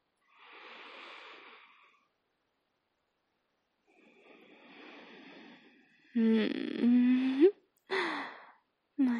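Two long, deep sniffing inhales of lacy, ruffled panties, airy and fairly soft, each lasting over a second with a pause between, followed by louder voiced breathy vocal sounds and sharp gasps.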